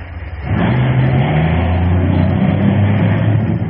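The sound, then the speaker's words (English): A car engine roars to life and revs hard, its low drone climbing slightly in pitch as the vehicle pulls away in a hurry, heading to a Gulf gas station. Loud, with no voices over it. “Let me in that car with you. Let's both get down to that Gulf Station fast.”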